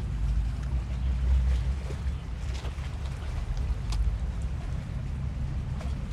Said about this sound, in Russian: Этот гул кораблей. Вот это течение, шум прибоя, какая-то такая небольшая суета причальная. Ну, очень небольшая, такая микро.